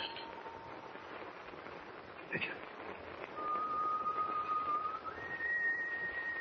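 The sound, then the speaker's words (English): A person whistles long, steady notes that step up in pitch, clear, over a constant rushing background noise with a faint knock partway through; the whistler is standing outside on a ship's deck. “It's just whoever's whistling is standing right outside on deck.”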